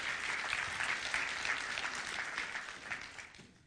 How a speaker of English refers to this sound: If you believe that, clap your hands this morning.